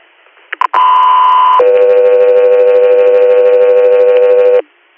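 Dispatch alert tones for Guthrie Air over a radio: two quick clicks, then a steady high tone for about a second that drops to a lower held tone for three seconds, loud and with no talking.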